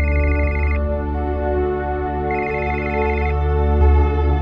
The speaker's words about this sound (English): Then his phone rang.